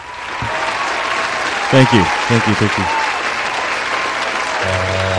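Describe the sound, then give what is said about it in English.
Steady, loud applause for the host fills the whole stretch as a dense crackle of clapping, while a voice speaks briefly over it partway through. “Hey, can I hear another round of applause for myself?”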